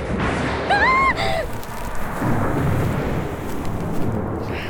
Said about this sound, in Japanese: ごめん、私雷苦手で。